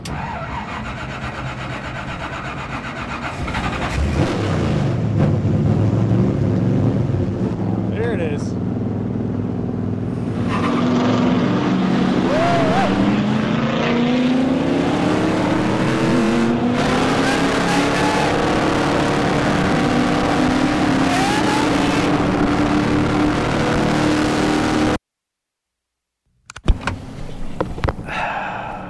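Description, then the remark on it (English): A race car engine roars at full speed around Charlotte Motor Speedway, loud, its pitch climbing and wavering for about twenty seconds before a sudden cut, then resuming briefly. “I'm about to fulfill a childhood dream by getting to drive in a race car at full speed around Charlotte Motor Speedway.”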